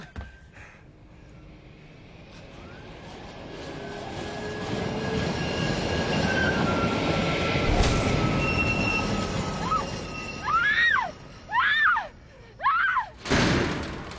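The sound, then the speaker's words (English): A tram rumbles past on rails right outside a hospital, building to a loud, steady roar with high metallic squeals, then a few sharp rising tones like a horn or bell sounding in short bursts near the end. “Just ran out in front of the tram. Tram right outside the hospital.”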